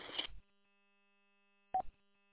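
Two short electronic telephone keypad tones, made when the wrong button was pressed and cut off a phone call: a brief burst at the start and another after a pause of silence, fairly clear against a quiet, humming line.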